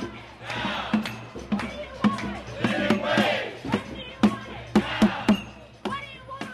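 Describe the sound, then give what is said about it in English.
A crowd of several hundred marchers shouts and chants together while marching up Massachusetts Avenue toward Harvard Square, a dense roar of many voices punctuated by sharp rhythmic claps or drum hits that stand out loudly throughout. “At around 4:30, the crowd of several hundred proceeded to march up Massachusetts Avenue toward Harvard Square and then on to Harvard Yard, where a rally took place outside Massachusetts Hall, which student activists have occupied for the past 16 days”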